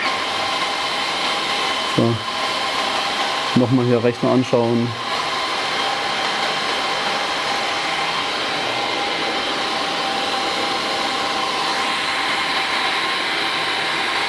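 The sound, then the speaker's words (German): An air conditioning unit, just switched back on after it failed, runs with a loud, steady whooshing hum and faint tonal whine throughout, while a man speaks briefly near the start. “So, jetzt schalten wir erstmal die Klimaanlage wieder ein.”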